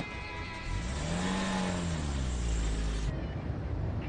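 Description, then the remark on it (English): A car engine revs loudly, its pitch climbing and falling, then the car pulls away as the steady roar continues and ends abruptly. “It's my dad's car. Get a move on.”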